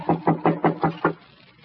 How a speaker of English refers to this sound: Well, this is the only door that's closed. I'll knock.